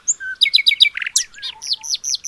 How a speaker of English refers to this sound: One morning, the birds were singing. Little Bird had been practicing his singing and decided to join in. Out of nowhere, from the bottom of the tree, Little Bird began to sing.